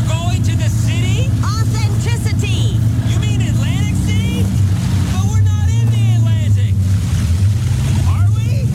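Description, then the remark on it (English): A loud, steady boat engine drones low and constant throughout, with people talking over the rumble, recorded on a real boat for a Progressive insurance commercial. “We're recording this progressive commercial on a real boat”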